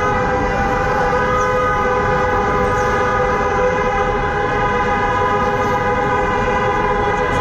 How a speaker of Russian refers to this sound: Все это сопровождалось непрекращающимся гудением машин в поддержку протестующих.